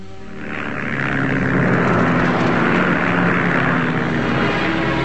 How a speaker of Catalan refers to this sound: Van prendre a fons l'accelerador, l'avió va volar, vibrava quan el motor estava a la seva màxima potència, corria i les coses anaven bé.